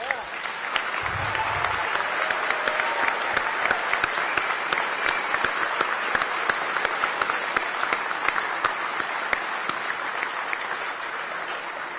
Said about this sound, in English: So all of my mystery challenge teams that have competed throughout the years, please just stand up and everyone give them a round of applause, please.